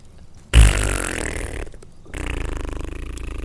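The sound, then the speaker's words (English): A loud, wet fart erupts abruptly and sputters on for a few seconds, then continues in a second stretch of rapid, bubbly pulses, with no voices. “Looks like a really shameless, loud, wet fart.”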